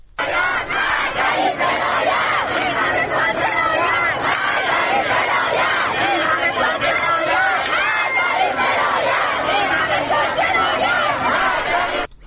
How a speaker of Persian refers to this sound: ویدیوهایی منتشر شده که نشون میده معترضان روسری‌های خودشون رو به همراه عکس آیت الله خامنه ای به آتش میکشن و شعار آزادی میدن. ما صدا رو میشنویم از اونجا.